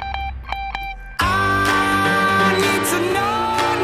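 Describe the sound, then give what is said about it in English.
A song riff of a few short, bright electronic dings pulsing in a quick irregular pattern, thought to be Morse code for "love me". Then a loud, full music track bursts in and carries on with a steady beat. “Ding, ding, ding, ding, ding. But that's more a guitar thing”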